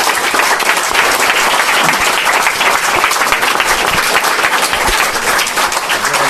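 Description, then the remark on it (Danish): A sustained round of applause from an audience at a Danish integration hearing on 31 May 2011, thanking departing participants for their efforts; dense overlapping claps forming a steady, loud crackle that holds evenly throughout without any voices. “Skal de ikke have en klapsalve for deres indsats?”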